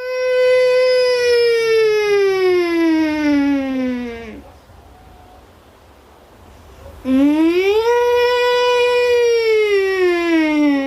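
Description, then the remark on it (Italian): A child's voice in Ukraine imitates an air raid siren, a long wail sliding slowly downward, then a brief silence before the voice swoops back up and holds high again; recorded by Belgian artist Francis Ali. “Ma non sono vere sirene di allarme, sono bambini che ne imitano il suono, un suono che conoscono estremamente bene perché ormai fa parte delle loro vite quotidiane.”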